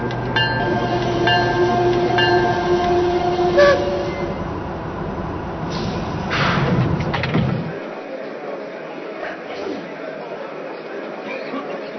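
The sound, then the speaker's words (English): Passenger train number 17, the Wolverine, rumbles loudly at a station while a sustained multi-tone horn sounds over it, then the heavy low rumble drops away, leaving a thinner mechanical hiss and clatter. “Train number 17, the Wolverine.”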